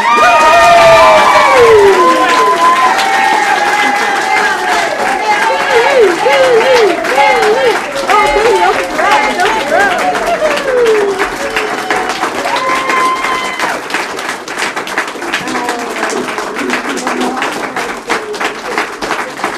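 A crowd bursts into loud cheering and applause, with high excited shouts and whoops rising over steady clapping that carries on throughout, gradually settling but staying dense and energetic.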